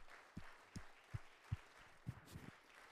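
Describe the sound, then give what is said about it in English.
An audience claps hands to Jesus in a steady, rhythmic beat, about six unison claps at a fairly soft level, with no voices over them. “Let's clap our hands to Jesus.”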